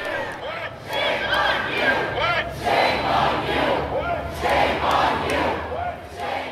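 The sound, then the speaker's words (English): A large crowd of protesters at the state capitol in Denver, protesting police violence after the murder of George Floyd, chants in unison, led by a Denver school board member from the capitol steps. Loud shouted phrases rise and fall in a steady repeated rhythm, with a slight pause between each round. “Denver school board member … led protesters in a chant from the capitol steps.”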